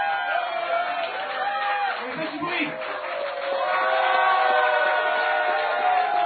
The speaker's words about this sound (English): You deserve a big round of applause